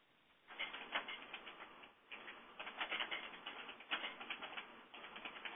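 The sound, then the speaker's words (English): Rapid keyboard typing during a conference call, a dense stream of light clicks that starts after a brief quiet and continues with short pauses. The sound is not loud, and no one talks. “And please do mute if you are not speaking, and especially if you are typing.”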